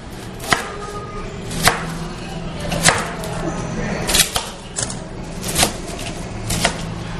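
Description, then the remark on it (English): A knife chops a sweet Peruvian onion into a small dice on a cutting board, crisp, with sharp knocks landing roughly once a second at an uneven pace over a low background hum. “get some oil going in one of the pans, and let's cut up some onion”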